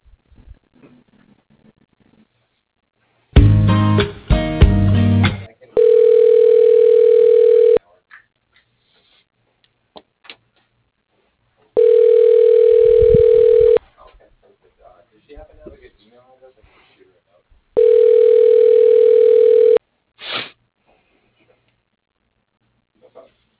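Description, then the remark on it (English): Telephone line tones during a call transfer: a brief burst of dialing clicks, then three steady, evenly spaced ringback tones, each about two seconds long, separated by quiet gaps. “I could transfer you to his phone.”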